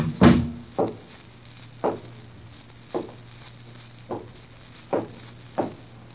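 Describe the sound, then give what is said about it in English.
A sharp knock or thud as a door is unlocked and opened, followed by six slow, evenly spaced footsteps of a person walking in, over a faint low hum with no talking. “I walked in.”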